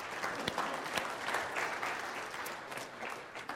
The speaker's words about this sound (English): You agree with me? Yes. Yeah, you could clap for them.